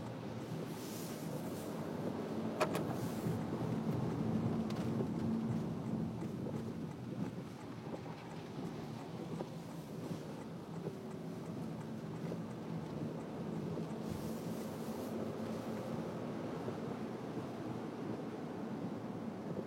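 Steady rain falls outdoors in a continuous, even wash of noise, with low rumbling and gusty wind buffeting underneath. No one speaks throughout.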